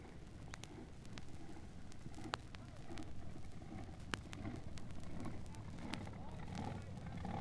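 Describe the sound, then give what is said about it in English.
A double A fuel dragster with a '63 Oldsmobile engine fires up and rumbles steadily in a deep, loud drone throughout, with a few sharp clicks and pops cutting through the continuous roar. “now firing up. This is an Oldsmobile, double A fuel dragster.”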